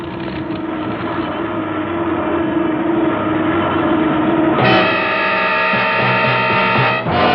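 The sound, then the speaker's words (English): A loud, strained airplane engine that is on fire roars steadily, then jumps to a higher, harsher whine partway through as the aircraft goes down. No one speaks. “Hey, that engine's on fire. It's burning.”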